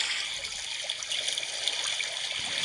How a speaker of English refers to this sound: All of these apps are too... What about an evening lake?